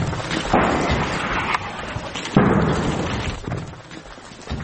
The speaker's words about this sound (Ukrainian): У повній темряві видно лише спалахи. За кілька секунд чути вибух.